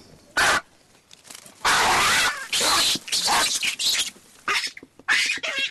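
Male baboons in a group of lounging baboons squabble in a brief spat, a burst of harsh, loud screeches and barks, then trade a few shorter calls back and forth as they check in with each other, before falling quiet.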